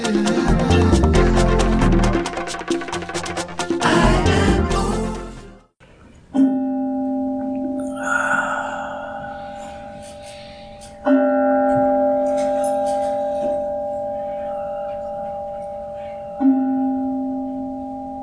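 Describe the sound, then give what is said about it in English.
After a loud, dense burst of music, a resonant bell is struck three times, each deep, steady tone ringing on and slowly fading before the next strike. “So as the sound of the bell moves into a resonant silence within, we feel its power to impact the world through our own awareness.”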